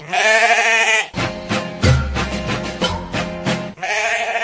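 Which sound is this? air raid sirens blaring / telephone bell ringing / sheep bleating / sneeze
sheep bleating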